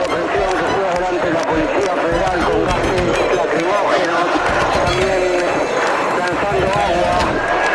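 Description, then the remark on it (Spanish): A loud, chaotic outdoor scene of a crowd of protesters running toward Avenida de Mayo, chased by Federal Police mounted officers, with hurried footsteps, overlapping shouting voices and hooves clattering among them, continuous throughout. “La gente va corriendo hacia la Avenida de Mayo y atrás corren los efectivos de la policía montada, corriendo detrás de la gente, y se siguen escuchando tiros.”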